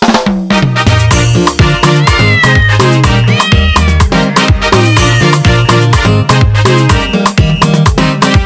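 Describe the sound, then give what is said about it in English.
Repeated cat meows rise and fall over loud, continuous music with a steady thumping beat and bass line, the meows blended into the mix rather than standing alone. “I love you, kitty.”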